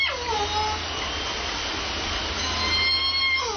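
killer whale call

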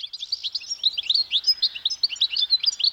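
birdsong chirping

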